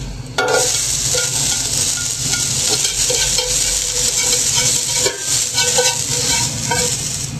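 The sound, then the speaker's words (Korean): Carrots stir-frying in a frying pan after other vegetables, a steady loud sizzle with scraping and clatter as the pieces are tossed and stirred, with no talking. “당근을 볶아보겠습니다.”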